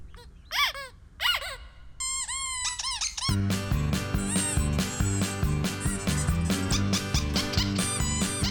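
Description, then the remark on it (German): A rubber duck squeaks twice, then gives a quick run of higher squeaks before lively music kicks in and carries on loudly to the end. “Und morgen kommt im Radio: Quietscheentchen rettet Umwelt.”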